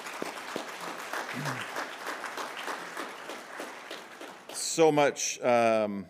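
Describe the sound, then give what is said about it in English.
An audience applauds its guests from Bikers of Christ with steady, dense clapping for about four seconds before it fades and a voice begins speaking over the last of it. “Let's applaud for them.”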